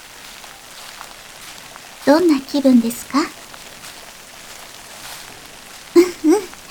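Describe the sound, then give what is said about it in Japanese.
Steady, soft rainfall in a forest patters continuously in the background, a gentle hiss of drops spread evenly throughout, while a woman's voice speaks a short question over the rain. “今あなたが歩いているのは夢の世界。雨の降る森の中です。”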